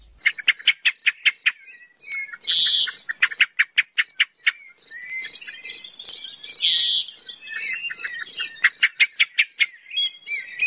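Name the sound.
blackbird song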